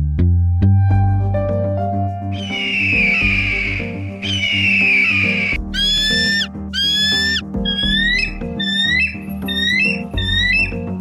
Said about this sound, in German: Soundvariationen sind das eines Weißkopfseeadlers. Er hat sie alle drauf, vom lauten Brüllen zum Spitzenschrei bis zum bettelnden Fiepen. Aber da fiept kein kleiner Schnuckliger, da fiept ein veritables Riesenstück Greifvogel,